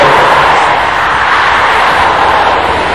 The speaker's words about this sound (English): Sisters, are you here this morning? Can I hear the sister shouting this loud out here?